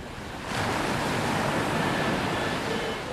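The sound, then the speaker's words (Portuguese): A sea wave breaks and crashes into a broad, roaring wash of surf that rises sharply after a brief quieter moment and stays loud and steady, with no voices. “O pá são as ondas quebrando.”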